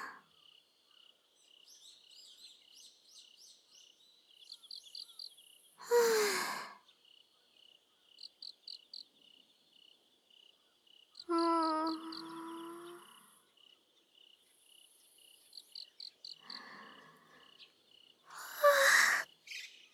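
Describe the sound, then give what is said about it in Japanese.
Insects chirp steadily in a high, continuous trill, with brief rhythmic bursts of faster chirping, interrupted by a few louder breathy swells and a low hoot-like call. “虫さん泣いてるんだ。”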